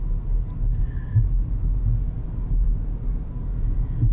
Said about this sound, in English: You may have to put up with the sound of my car. Or any other road hazards I may encounter.